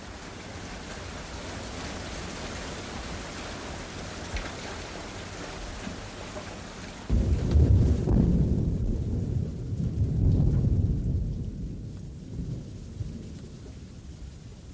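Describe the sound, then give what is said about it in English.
Steady rain hisses for several seconds, then a deep, loud roll of thunder takes over, rumbling heavily and swelling again before slowly fading while the rain continues beneath it. “But the blind person never has a roof over his head until thunder puts it there.”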